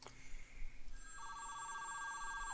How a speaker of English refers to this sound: You don't remember. I'd say it, but I keep getting drowned out by ringtones.